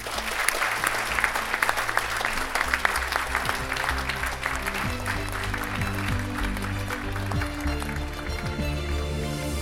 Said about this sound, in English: and thank you for your excellent questions, and please join me in giving them and yourselves a round of applause.